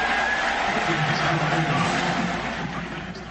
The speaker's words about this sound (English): He is out there snapping. And a good snap from Jake. Listen to the crowd. Look at the USC sideline.